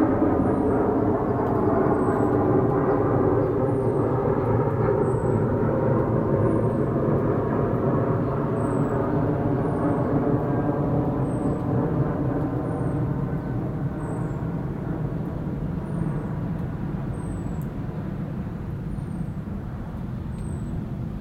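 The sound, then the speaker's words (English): A loud, sustained jet roar fills the air on a damp morning, a broad rumbling drone that slowly shifts in pitch as the plane passes overhead, with faint birdsong chirping high above it. “That was an incredible roar of that plane this morning.”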